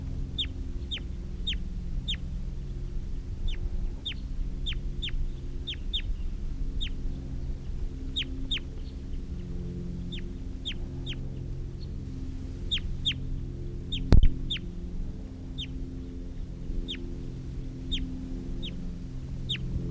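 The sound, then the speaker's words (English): Short bird calls from released, decoy and captive birds in trees at 10 o'clock, some calling back to wild birds, repeat steadily for the whole stretch, quick sharp chirps and clucks in loose rhythm over a constant low rumble, with one brief sharp knock partway through and no talking. “One of them's calling now, and sometimes the decoys and captives have been calling back to the wild birds.”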